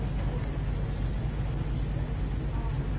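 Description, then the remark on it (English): A steady, deep engine rumble of a boat on the water at night, a continuous low drone with a faint wash of noise above it and no talking. “By his mercy, we are on this boat tonight.”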